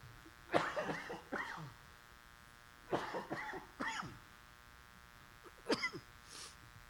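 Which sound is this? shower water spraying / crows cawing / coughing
coughing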